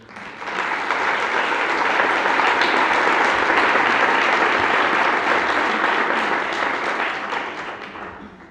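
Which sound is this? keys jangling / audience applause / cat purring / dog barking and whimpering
audience applause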